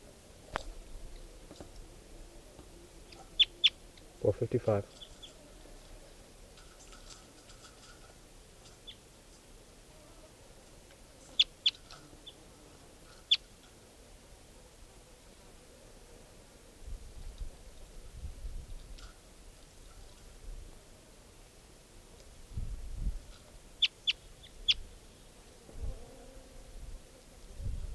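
bird calls

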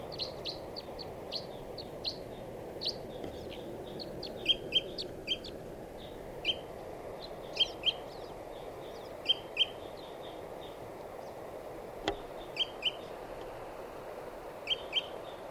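wild bird calling

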